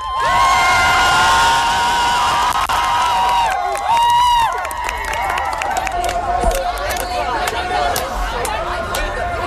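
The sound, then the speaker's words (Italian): A large crowd of pro-Palestine activists and pacifists cheers and shouts loudly and continuously outside the British High Court in London after its ruling on the Palestine Action ban, many high excited voices overlapping in a dense roar that swells at first and then stays steady, with a babble of speech underneath. “Quello che avete sentito è la folla di attivisti, pacifisti, pro-Palestina che erano di fronte alla sede dell'alta corte britannica, che oggi ha stabilito che il divieto imposto al gruppo Palestine Action ai sensi delle leggi antiterrorismo era”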